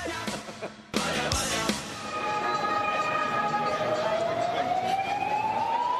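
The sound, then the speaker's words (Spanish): Busy city square ambience at the Puerta del Sol: a dense, steady wash of crowd murmur and street noise, with a high wailing tone that slowly rises in pitch like a siren over the second half. “La poli no, ¿eh? Es la Puerta del Sol.”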